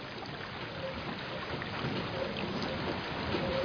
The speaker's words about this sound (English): There's some 40 buckets on this wheel. There's roughly about 4 or 5 gallons of water going into each bucket.